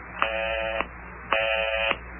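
A telephone busy signal, heard after dialing a number, sounds two buzzy, evenly spaced tone bursts with a short silence between, thin and narrow as if heard down a phone line, with no talking.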